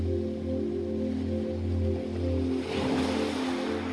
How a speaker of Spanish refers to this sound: Escucha el relajante sonido del mar. Las olas rompiendo suavemente en la orilla.